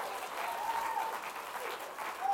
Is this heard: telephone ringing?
no